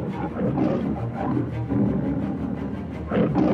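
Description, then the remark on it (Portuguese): A tiger, Shere Khan, roars with deep, rumbling growls that swell and fade in several loud bursts over a few seconds, with no one talking. “Mowgli descansava quando escutou um rugido impressionante.”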